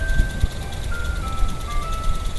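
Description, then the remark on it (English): An ice cream truck's jingle plays faintly in a West Dallas neighborhood, a thin, steady electronic melody drifting over a low outdoor rumble. “You can hear the birds, maybe an ice cream truck.”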